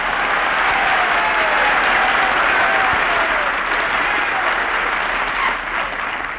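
Steady, dense clapping from a large audience fills the whole stretch, loud and sustained, easing off slightly near the end.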